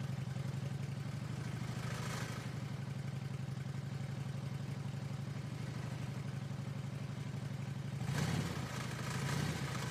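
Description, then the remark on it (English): The engine of the crypto cycle purrs at a steady, low idle for the whole stretch, with a brief throttle blip around two seconds and a rougher rev near the end. No one speaks. “The crypto cycle is purring.”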